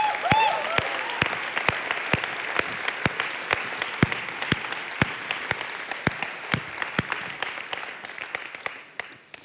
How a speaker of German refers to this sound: Hey, dann würde ich sagen, lass uns doch mal dem Gott, dessen Idee das war, einen Applaus geben und ihm danken dafür.